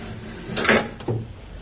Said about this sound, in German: Schiebt das Fenster hoch.